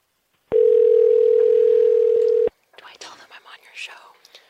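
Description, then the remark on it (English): A single loud, steady telephone ringing tone of an outgoing phone call, lasting about two seconds and then cutting off, followed by quiet, hushed voices murmuring. “I think we need you to call him.”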